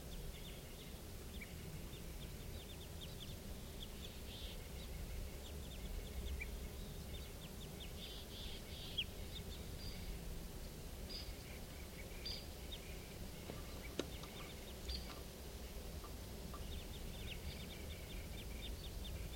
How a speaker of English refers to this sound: Recording at 4:57. I'm pretty sure now those are crossbills up there.